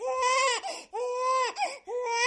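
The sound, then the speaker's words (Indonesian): A baby cries in three long, wailing bursts with brief gasping pauses between them, loud, with no other sounds. “sampai yang menjengkelkan seperti seseorang yang mengunyah makanan dengan berisik, napas yang keras, atau bayi menangis.”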